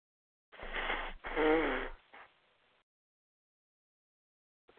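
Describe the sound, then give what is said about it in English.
Someone with a cold blows their nose in two loud, honking blasts, the second longer and more tonal, followed by a brief softer sniff and a fading snuffle, then quiet. “Excuse me, I have to blow my nose.”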